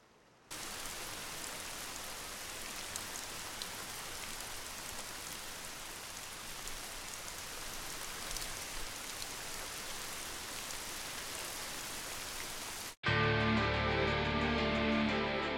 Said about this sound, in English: Rain. It's just like a girl. Sometimes kind. Sometimes fickle. Pouring down heavily, or not falling at all. It is the source of all life. And tonight, the rain is a little cold.